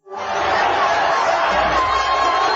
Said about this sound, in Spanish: Avisado Céspedes, quiso visitar la villa. Y allá fue el capitán, recibido por el pueblo entero entre aplausos y gritos.